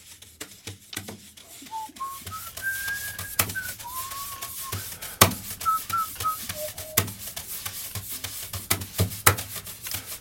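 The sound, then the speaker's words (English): Someone whistles a short, wandering melody of clear sustained notes at moderate volume, accompanied by steady scratchy rubbing and sharp tapping hits in an irregular rhythm. “Whistling, very nice.”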